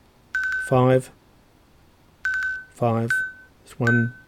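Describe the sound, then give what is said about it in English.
A watch, using its tap to buzz time feature, buzzes out the time 11:58 as a sequence of short, rough, low-pitched vibration bursts, three in all, each paired with a steady high electronic beep and separated by brief pauses. “What it was doing, it was using a long buzz, and you heard, and that's why I kept the sound on, because you, rather than doing a single beep, it was doing a repeated beep.”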